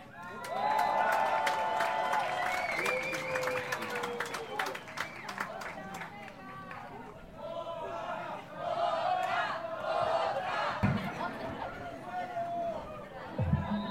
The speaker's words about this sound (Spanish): Un aplauso para ustedes que están aquí y seguimos en pie de lucha. Adelante siempre.